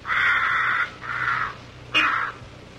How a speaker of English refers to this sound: It's probably a crow.